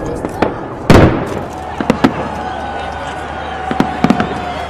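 Festive New Year fireworks burst repeatedly over the Acropolis in Greece above a steady outdoor crowd murmur, with one big booming blast followed by several sharp, crackling pops at irregular intervals.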